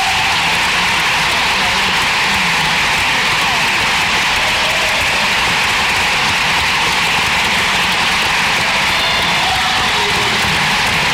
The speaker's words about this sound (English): The next person to speak at the city council meeting yesterday. Listen to that crowd. That's a sporting event type of passion.